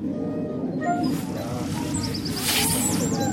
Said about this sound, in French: Bon, au passage, il y a un petit troglodyte qui chante de l'autre côté.